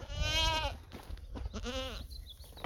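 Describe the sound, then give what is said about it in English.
Goats from a herd kept for cheese-making at Stepladder Ranch near Cambria bleat, one long wavering cry followed by a shorter one a moment later, over a low outdoor rumble with no one talking. “And finally, on Playing with Food, Father Ian visits Stepladder Ranch near Cambria and shows you how every aspect of the life of their goat herd is part of making a high-quality cheese.”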